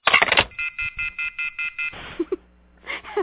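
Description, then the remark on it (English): A brief clattering burst, then a phone hang-up tone after a call ends, beeping eight times in an even, steady rhythm, followed by faint muffled sounds and a short scrape at the end. “The hanging up is, like, perfect.”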